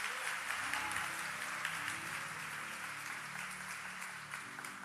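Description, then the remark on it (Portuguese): A church audience applauds the Lord steadily, a dense, continuous wash of clapping that holds at an even, fairly loud level for several seconds, with a faint low hum of voices or music beneath. “Que creram perto de, você pode aplaudir o Senhor por isso, perto de 5 mil pessoas.”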